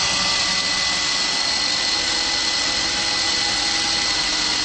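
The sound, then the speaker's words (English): A sewing machine, run by a mother working through the night, runs steadily without pause, its fairly loud motorized whir and rapid mechanical chatter holding an even level throughout, with no voices. “Childhood memories with the sound of my mother's sewing machine as she worked through the night.”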